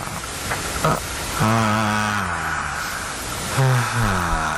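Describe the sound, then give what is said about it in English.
A sleeping man lets out two long, voiced exhales in place of snoring, each a drawn-out breathy sigh that slides down in pitch, over a steady airy hiss. “But for some reason, rather than snoring, he just lets out air in a rather erotic fashion.”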